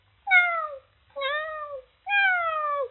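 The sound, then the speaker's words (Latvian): A kitten meows three times in a row, asking to be let outside, each cry drawn out and slightly falling in pitch, loud, with short pauses between and no other voices. “Nu, redzi, nu, kaķēns prasās laukā.”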